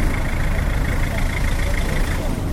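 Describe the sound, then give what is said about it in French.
A few vehicles idle at a Relais-Sika fuel station, waiting to be served. A steady, fairly loud low engine rumble holds constant throughout, with no breaks or revving. “À la station Relais-Sika, quelques rares véhicules attendent d'être servis.”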